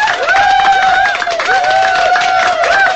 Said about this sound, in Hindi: बहुत सारे जी बोल दिए शर्मा जी ने, लेकिन तालियां बजनी चाहिए केशव के लिए भैया, अच्छा तरीका।